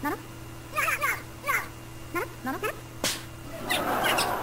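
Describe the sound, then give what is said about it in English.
Several birds call in quick, chirpy bursts, their short rising and falling notes repeating irregularly over a steady low hum, with a brief clatter and a rush of noise near the end. “More birds.”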